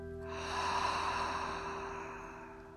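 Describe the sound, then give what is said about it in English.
A single slow, airy inhale through the nose during a pain-management relaxation breathing exercise swells up over about half a second, then gradually tapers off, with a soft steady hum beneath it. “Breathing in through your nose, into your chest, into your belly, and out.”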